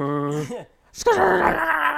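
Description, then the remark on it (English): A voice imitates the wheels of a two-door sliding closet in a bedroom rolling: a steady droning hum that bends upward, a short pause, then a louder, rising, sustained groaning rumble that holds to the end. “If you're super impressed with my coat closet, check out my two door sliding closet in my bedroom. I'm still jealous. Like listen to those wheels move.”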